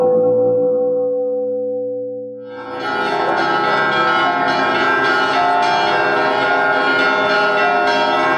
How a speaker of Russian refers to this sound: Звон колоколов, под звуки которых люди рождаются, живут и умирают. Столетний юбилей в этом году отмечает Казанский кафедральный собор.